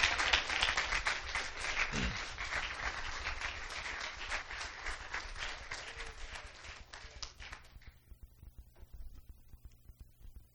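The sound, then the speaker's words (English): A large group at a morning church service claps hands in praise of the Lord in a dense, rapid, irregular burst of applause that stays loud for about eight seconds, then quickly dies away to near silence. “Let's give the Lord a great hand clap of praise this morning.”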